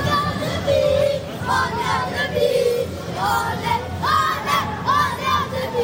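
About 1000 FC Annecy football supporters shout and cheer together at the final whistle of a Coupe de France match against Marseille, at Marseille's home ground, with rising and falling chants and raised voices over a dense, continuous roar of noise.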